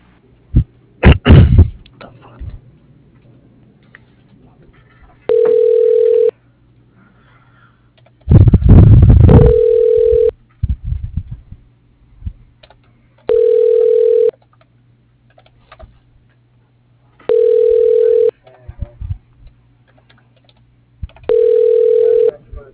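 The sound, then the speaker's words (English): A telephone ringback tone purrs five times at steady intervals of about four seconds, heard over the line as a call is transferred to voicemail, with a couple of loud handset clunks and rustles near the start. “I'll go ahead and transfer you.”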